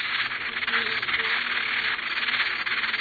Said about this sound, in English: Now these are red-breasted sapsucker chicks calling from their nest.